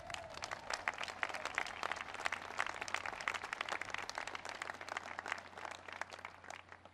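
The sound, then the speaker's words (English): A large crowd at an Academy graduation applauds steadily for about seven seconds for the graduates' families, a dense, even wash of many hands clapping at once with no voices cutting through. “And I know you couldn't have made it without the love and support of your moms and dads and brothers and sisters and grandmas, grandpas, aunts, uncles, cousins, so give them all a big round of applause.”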